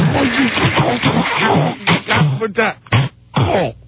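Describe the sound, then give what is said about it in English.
A voice imitates a garbled, breaking-up phone line: muffled, tinny babble without clear words, growing choppier toward the end with abrupt dropouts and short bursts. “I hate that when you got somebody on the phone and like they're going on like you can hear them this clearly”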